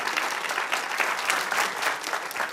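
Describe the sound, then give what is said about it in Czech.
Steady audience applause fills the whole stretch, a dense wash of many hands clapping at once with no pauses, even in loudness; the audience in Kaplice welcoming Czech Radio Dvojka presenter Ondřej Soukup on stage. “Takhle vám tleská Kaplice.”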